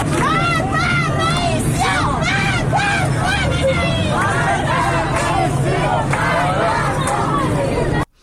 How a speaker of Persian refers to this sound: کاشان خیلی شلوغ بوده و تجمع کرده بودن. صدای مردم کاشان رو بشنویم.